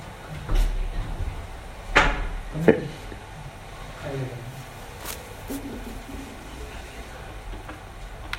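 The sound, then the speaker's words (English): A door swings shut with a solid thump, followed a moment later by a sharp metallic click of the latch, against a low room hum with faint background murmuring. “Why don't you latch it? If someone comes, let them knock.”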